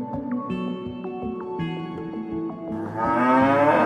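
Cows moo in long, drawn-out, overlapping calls that continue throughout, growing louder and fuller near the end. No one speaks.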